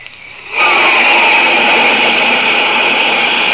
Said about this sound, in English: That's a flight of jet planes flashing across the sky, flying faster than the speed of sound itself. Those fleet, deadly jets are the masters of the air, spreading their wings in battle high above the earth.